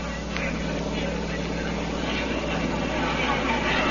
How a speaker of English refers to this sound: The fighter planes were coming in, biplanes, each with two machine guns and a few bombs.